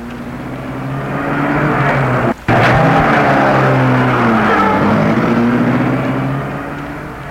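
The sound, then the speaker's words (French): A car carrying a woman back home drives, its engine droning loudly with pitch rising and falling as it shifts, broken by one brief cutout before the steady roar resumes and slowly fades. “Dans la voiture qui la ramène, elle se dit, je ne peux compter sur personne.”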